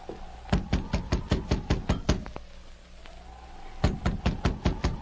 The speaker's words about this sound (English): The sergeant repeated his knock.